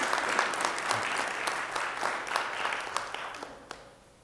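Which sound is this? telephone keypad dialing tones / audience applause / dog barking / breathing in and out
audience applause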